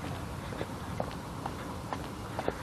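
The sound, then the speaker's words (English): Horse hooves clomp at a steady walking pace, one hit roughly every half second, moderately loud over a constant wash of outdoor background noise, with faint jingling of horse tack and no talking. “So at the parades, because there's always lots of mounted units, when there's a parade, there's always horses and tack and jingling and clomping of horses.”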